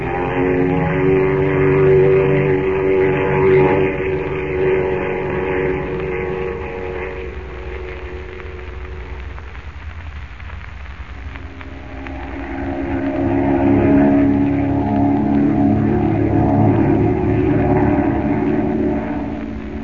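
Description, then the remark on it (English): A steady, droning engine hum with a strong low tone from a propeller plane in flight over Central America, dipping briefly around the middle before swelling loud again. No voices are heard. “Well, now that we're safe and comfortable in the plane”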